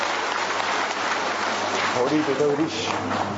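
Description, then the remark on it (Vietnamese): A crowd applauds steadily to welcome a woman, with dense, continuous clapping that fills the whole stretch, with some voices and murmuring mixed in toward the end. “Bây chúng ta cho một tràng pháo tay để chúng ta gặp gỡ người chị em này.”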